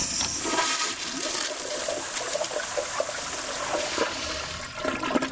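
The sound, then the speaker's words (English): A toilet flushes, a steady rushing gush of water with bright hissing and gurgling that holds for several seconds without letting up. “Americans flush a quarter of a billion pounds of drugs in contaminated packaging down the drain every year”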